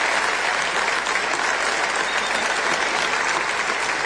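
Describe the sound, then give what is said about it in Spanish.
Steady applause from an audience for Rolón, who is being named an outstanding personality of the City of Buenos Aires, many hands clapping in a dense, continuous wash that holds an even loudness for about four seconds with no voices standing out. “Un aplauso para él.”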